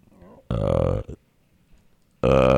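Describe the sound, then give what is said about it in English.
Two loud, drawn-out belches from a soundboard effect, each about half a second long and separated by a short pause, prominent with no talking. “That's the burp effect. Beast ass burp.”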